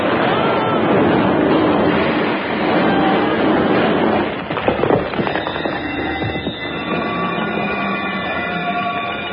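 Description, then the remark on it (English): An explosion, set off with a plunger, demolishes a wall: a loud, sustained roaring blast fills the first few seconds, then breaks into sharp crackles and clattering debris before fading to a lower rumble with faint ringing tones. “As the wall is integrated, two men in pajamas appear from the debris.”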